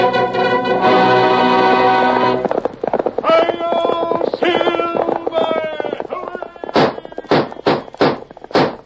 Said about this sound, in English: A fiery horse with the speed of light, a cloud of dust, and a hearty hi-yo, Silver, the Lone Ranger.